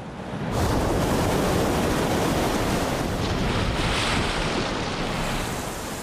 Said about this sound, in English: The males announce their arrival by gigantic leaps, 100 tons propelled into the air with a flip of the tail. The sound above water is like a cannon shot. Below, it must be felt for miles around.